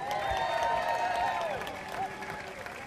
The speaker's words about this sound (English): One more round of applause for Peg Lautenschlager.